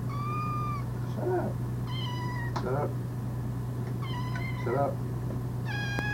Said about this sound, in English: Those are nice meows, though. After you're gone, we'll have something to remember you by now.